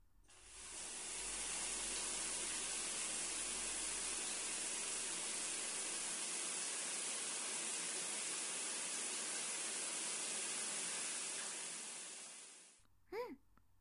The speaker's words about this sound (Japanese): はい、じゃあシャワーで流しますよ。